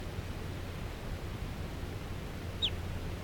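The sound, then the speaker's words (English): A single short, sharp call from one of many wild crossbills flying around lodgepole pines chirps once near the end, a quick downward note standing out over steady wind-like hiss and low rumble; no one talks. “crossbills all over the place here, flying around.”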